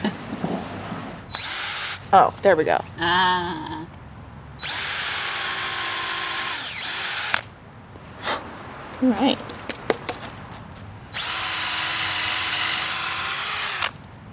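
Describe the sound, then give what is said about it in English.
A power drill whines steadily in three long bursts, boring a row of holes into a hard log for wood plug dowels, with short spoken remarks and brief clatter between the runs. “This log is really hard. Yeah. I swear I know how to use a drill.”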